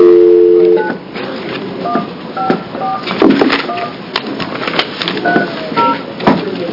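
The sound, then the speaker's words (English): A steady dial tone gives way to a quick run of touch-tone beeps as a number is dialed to call in a witness during a hearing, each short electronic tone crisp over a faint background hiss. “If you want to dispense just one moment, Representative Kump, so you don't have a ringing sound while you're talking.”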